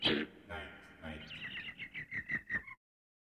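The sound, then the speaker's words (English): A voice imitates a bird's night song: a quick run of bright, whistled chirps, then about half a dozen evenly spaced trilling notes, fairly loud, before stopping abruptly. “One crazy old bird in the middle of the night. Singing and singing and singing and singing and singing.”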